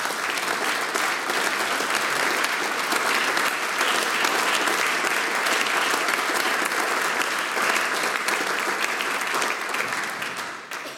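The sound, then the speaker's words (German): Sustained applause from a sizeable audience for a band that has just played, a dense, steady clatter of many hands clapping at full strength that carries on throughout before easing slightly at the very end. “Dankeschön fürs Aufspülen. Euer Applaus.”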